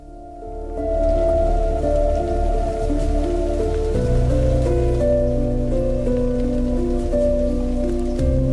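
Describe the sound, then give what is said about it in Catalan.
Steady heavy rain patters throughout, layered over deep, sustained rumbling thunder that swells and shifts partway through, giving the brooding atmosphere of a strong night-time storm. No one speaks. “En aquell moment, un home que vivia en el carrer, del qual no he aconseguit sincerament trobar el nom, se va refugiar d'una forta tempesta nocturna a l'interior del mausoleu.”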